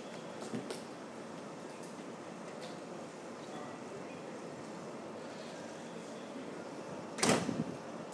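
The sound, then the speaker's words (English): Busy railway platform ambience at Reading station while changing trains, with a steady low rumble, a brief knock early on, and a loud burst near the end like train doors hissing and clunking. “So there we go, that was changing at Reading, which was actually not as painful as I thought it might be.”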